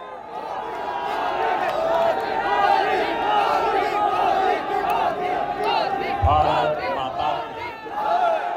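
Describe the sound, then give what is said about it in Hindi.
A large crowd of Prime Minister Narendra Modi's supporters cheers and shouts continuously at an event venue in the rail coach factory in Raebareli, a dense, loud roar of many overlapping voices with rising and falling chants throughout. “रायबरेली की rail coach factory में स्थित कार्यक्रम स्थल पर प्रधानमंत्री भले ही करीब डेढ़ घंटे बाद पहुंचे हों, लेकिन वहां मौजूद उनके समर्थक उत्साह और जोश का प्रदर्शन लगातार कर रहे थे।”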